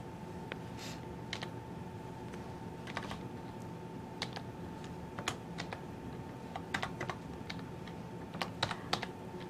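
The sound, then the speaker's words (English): Irregular bursts of computer keyboard typing, sharp clicky keystrokes in uneven clusters over a steady low hum, with no one speaking. “Sorry, having a bit of a problem with this keyboard.”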